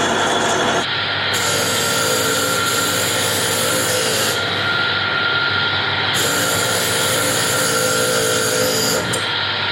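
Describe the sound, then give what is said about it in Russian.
A wooden model of a Harley-Davidson motorcycle rear wheel being worked on with a power tool: a loud, continuous whirring grind with a steady hum and a harsh hiss that fades and returns. No one speaks. “Это заднее колесо от мотоцикла. Если быть точным, от Харли Дэвидсона. Не знаю, как объяснить, я собираю модель.”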